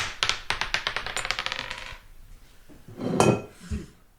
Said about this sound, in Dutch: Maar we gaan de dobbelsteen gooien. Komt-ie.